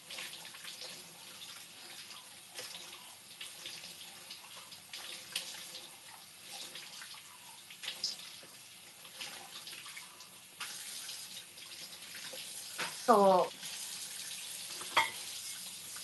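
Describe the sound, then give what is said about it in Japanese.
A tap runs steadily while a glass that held tea is washed beneath it, with a short squeaky rubbing sound near the end and a single light clink shortly after. No one speaks. “なんか作業の時に飲んでたお茶とかのグラスを無意味にとりあえず一回洗ったりする。”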